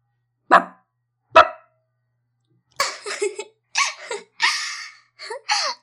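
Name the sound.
person imitating dog barking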